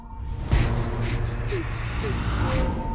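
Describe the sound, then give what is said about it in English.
At the start of a film trailer, a girl pants in quick, breathy gasps, roughly five or six heavy breaths in a steady rhythm, fairly loud over a low, sustained musical drone. “It starts with the girl. A girl panting.”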